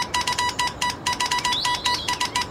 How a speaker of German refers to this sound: So wurden zum ersten Mal sprachliche Signale durch elektrische Leitungen übermittelt. Aber am Ende der Leitung kamen erstmal nur lange und kurze Töne raus, die man wieder in Wörter umwandeln musste. Also noch keine gesprochenen Sätze wie heute.